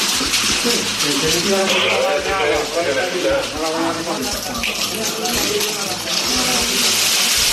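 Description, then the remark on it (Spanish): Water runs and gushes steadily inside the flooded first floor of a building after a firefighting operation, a constant loud rushing wash, with murmuring voices blending in underneath throughout. “Este era el sonido del interior de la primera planta, inundada por el agua tras el operativo de los bomberos.”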